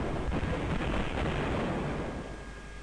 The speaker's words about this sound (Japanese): その時、ものすごい爆発音とともに森の向こうで大きな火柱が上がった。